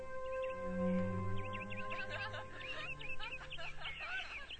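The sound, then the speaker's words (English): Busy, high-pitched chirps and twitters of birds outside an open window of the War Department on a hot summer afternoon start after a couple of seconds and continue in quick overlapping bursts, over a steady low hum and faint murmur of people outside. “But hearing the birds and the people outside only makes it worse.”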